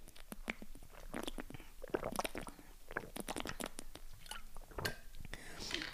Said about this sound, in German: Ich muss erstmal einen Schluck Wasser trinken, sorry.